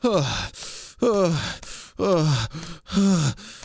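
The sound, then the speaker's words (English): Four breathy voiced gasps in quick succession, fairly loud, each sharp intake sliding into a falling moan-like tone, spaced almost rhythmically with brief pauses between. “Gasping already.”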